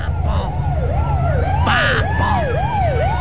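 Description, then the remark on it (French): A voice imitates an ambulance siren, a rapid rising-and-falling wail repeating about every half second, loud over a low, steady rumble of background noise. “Je sais pas, bah tiens, imite la sirène de l'ambulance.”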